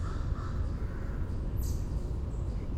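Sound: single crow cawing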